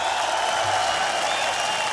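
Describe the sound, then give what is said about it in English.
A concert crowd applauding steadily for the bass player as he is introduced, a dense wash of clapping and cheering at an even level for the whole stretch, with no pauses or build. “Big round of applause, let's hear it.”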